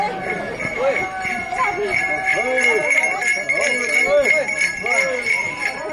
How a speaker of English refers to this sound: On a cool autumn Sunday, a group of Hopi activists with bells tied to their ankles run more than 70 miles across the reservation.